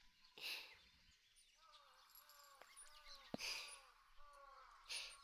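Crows caw several times in the evening, a series of short harsh calls spread across a few seconds, faint against a quiet outdoor background.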